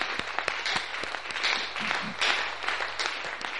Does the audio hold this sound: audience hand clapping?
yes